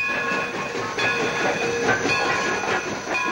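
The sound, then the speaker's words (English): A smoking freight engine rolls past in a steady, loud roar of rattling wheels and hissing, with thin high metallic whines running through it and no voices. “Later, May strides in high heels through a weedy lot and waits as a smoking freight engine passes by.”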